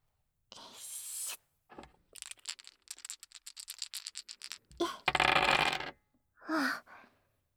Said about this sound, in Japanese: なら、もう一回やりますね。今度は、右からサイコロです。